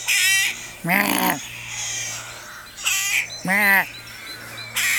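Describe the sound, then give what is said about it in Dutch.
A rook gives a series of harsh, grating caws, about five calls in uneven pairs, loud against a quiet background with a faint low hum. “Ik zal eens wat geluid laten horen. Kijk, als we het dan hebben over de roek.”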